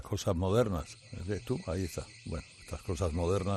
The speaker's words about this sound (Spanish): Hay una alarma. ¿Está sonando la alarma todavía? Sí, a ver, baja un poquito la sintonía, si se oye así de fondo, porque, claro, echa humo